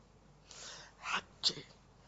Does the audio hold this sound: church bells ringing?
no